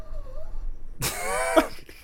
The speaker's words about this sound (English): I don't, like, what is this dog doing? She's sleeping. That's her sleeping noise? Yeah.